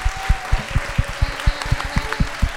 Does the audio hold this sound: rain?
no